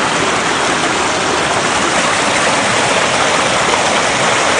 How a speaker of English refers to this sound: And the creek is roaring, as you can see, as always.